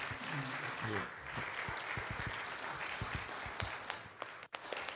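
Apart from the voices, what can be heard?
audience clapping hands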